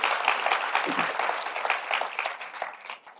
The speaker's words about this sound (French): Et ce matin, est-ce qu'on peut applaudir toute l'équipe de Nouvelle Vie Junior qui fait un travail incroyable?